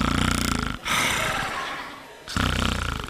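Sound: imitated snoring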